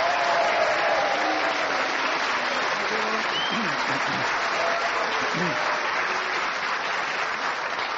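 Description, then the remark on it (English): The studio audience of the panel show Just a Minute claps and cheers for chairman Nicholas Parsons in a loud, steady wash of applause, with a few faint voices calling out above the dense clapping throughout. “Thank you for the cheers and the booze.”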